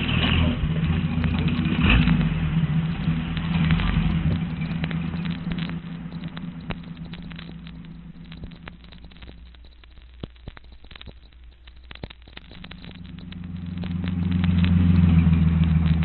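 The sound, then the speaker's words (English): A car engine runs steadily with a low, droning hum that dips quieter mid-clip, then swells louder again as if revving. No one speaks. “Well, there's the car.”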